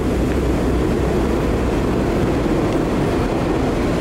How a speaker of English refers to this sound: It always sounds like there's a train arriving, so you run up the stairs.